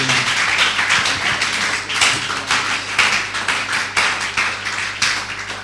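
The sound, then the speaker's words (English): A church audience claps hands to the glory of God in a dense, continuous burst of overlapping claps with a loose, lively rhythm, fairly loud, over a low steady hum and no clear speech. “Clap your hands to the glory of God.”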